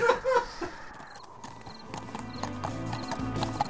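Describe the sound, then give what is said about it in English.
Horse hooves clop in a steady, uneven rhythm, with a brief whinny near the start and a faint ambient hum underneath, as two knights pull up their horses at sunset and one horse is led a few feet further. “So it's sunset when two knights pull up rein. One of them gets off the horse, the other one kind of leads it just a few feet more.”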